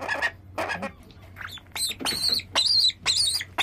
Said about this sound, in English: This bird is particularly vocal, which is good. It means that the feeding is not obstructing its airways in any way because you can hear it making noises, which is fantastic.